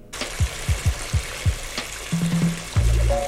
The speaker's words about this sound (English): And it's not raining. He's doing something, maybe with frying a chicken.